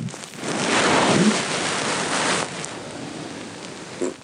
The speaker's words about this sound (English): Well, there's one result. I mean, mostly it's just rustling. But if you listen carefully, there's a little treat of a fart just at the end. But only a little tiny... Listen, this is